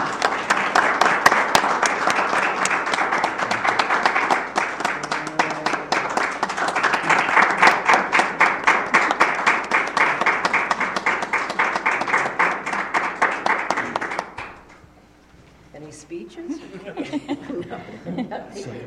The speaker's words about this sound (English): And we're twisting their arms here to keep them serving in other capacities, because we really need their insight and assistance. And I'd like everyone to join me in a round of applause. And thanks.